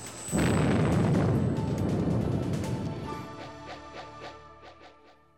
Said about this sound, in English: A few seconds later, there was a massive explosion as the rig blew up.